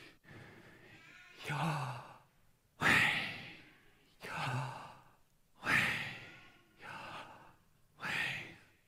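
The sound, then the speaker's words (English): Slow, audible breathing by a person demonstrating breathing without moving the mouth or closing the lips, alternating inhales and exhales in a steady rhythm, about six breath sounds in all, airy and sigh-like with brief pauses between them. “And I offer this to you because it can be useful to you in your life to think about this, of breathing, of practicing the presence of God, of inhaling God's name and exhaling slowly.”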